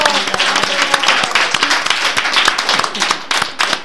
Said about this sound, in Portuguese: Un aplauso. Bravo.